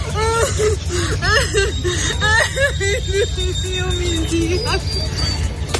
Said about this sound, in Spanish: Es el llanto de una mujer joven de unos 40 años delante de las cámaras de varios periodistas. No llora de tristeza, sino más bien de alivio, porque acaba de pisar por fin tierra seca tras cruzar la última barrera de su odisea